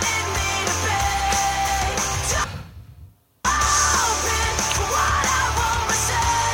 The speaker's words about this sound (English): Her scream is pretty good. It's pretty dope. I'm telling you. I didn't hear that part. It's not a scream. It's like a yell. It's raspy.